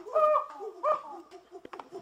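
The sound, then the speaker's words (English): Monkey calls: two loud, wavering hooting cries in quick succession, followed by softer chattering calls and a couple of sharp clicks. No one speaks. “Oh, I sent monkey sounds.”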